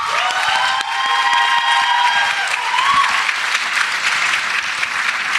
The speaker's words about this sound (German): Also, jetzt erstmal euer Applaus